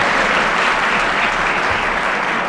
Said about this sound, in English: Let me remind the audience that if the teams are getting warm, you can applaud and help them.